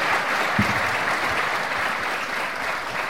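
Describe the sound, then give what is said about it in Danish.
Steady audience applause for Lars Løkke fills the whole stretch, a dense, even wash of many hands clapping at a constant loudness with no voices rising above it. “Som du kan høre, Lars, også på klapsalverne, så er du her blandt venner”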